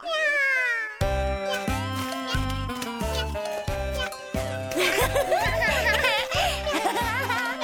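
A cat gives a clear, drawn-out meow on its own, then a steady, rhythmic backing track comes in, with more wavering meow-like cries rising over the music near the end.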